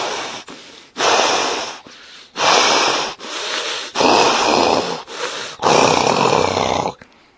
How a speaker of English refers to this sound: In great anger, Kaliya raised his hoods while remaining stationary, breathing heavily.